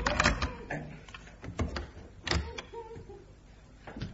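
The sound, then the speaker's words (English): A key, taken from a nail at the side of a locked door, rattles and turns in the lock, giving a few sharp metallic clicks and clunks spread over several seconds, with quieter scraping between them. “The door's locked. Look, hanging on a nail at the side. A key.”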